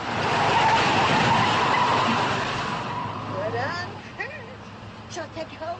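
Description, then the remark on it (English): The tires of a small hearse being driven skid loudly in a long, rough screech lasting a few seconds, then fade as voices begin talking over the engine noise. “Hey, this little thing handles well. Ever drive a hearse, Harold?”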